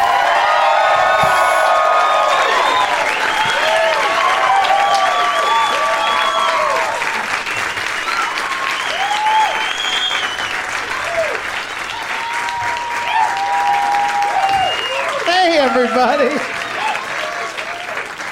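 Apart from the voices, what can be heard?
audience applause and cheering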